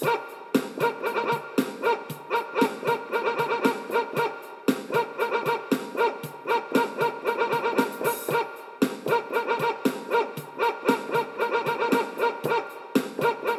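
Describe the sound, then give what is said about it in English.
Dog barks chopped and sequenced into a steady musical beat, the sampled yaps repeating rhythmically at varied pitches over a dense, continuous backing track with no talking. “So we get the dog going like this”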